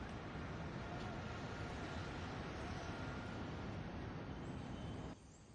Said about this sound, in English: Hey, what are you doing? Be careful with your car! Look at how you're driving! There's something wrong with the brakes and these cars keep coming at me.